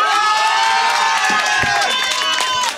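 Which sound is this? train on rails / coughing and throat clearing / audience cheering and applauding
audience cheering and applauding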